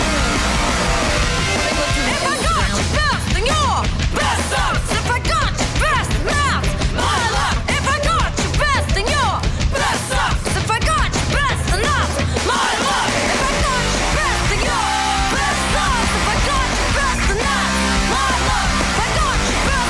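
A loud, dense rock theme song for the Hollywood Report plays throughout, with strained, high-pitched wailing vocals over crashing drums and distorted guitars; the texture thins slightly toward the end but stays full and continuous.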